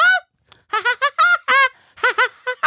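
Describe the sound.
A voice does a shrill, cartoonish Woody Woodpecker laugh: a high, warbling opening note, then a rapid run of staccato, sing-song hoots in uneven bursts with short gaps.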